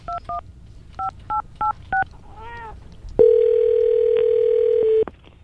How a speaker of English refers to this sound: So we got the phone number, and this is the moment from when we started dialing